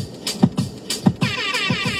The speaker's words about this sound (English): More fucking air horns.